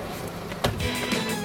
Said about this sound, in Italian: E senti qua che gli arriva con la macchina